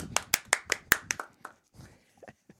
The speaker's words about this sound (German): Bitte einen großen Applaus